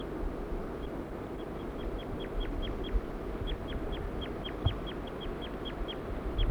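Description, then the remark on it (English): A male and a female bird call in a quick, steady series of short, high-pitched notes as they get ready to fly off. Each note drops slightly in pitch, repeating about twenty times over a constant low rumbling background with no talking. “Looks like the birds are getting ready to fly off.”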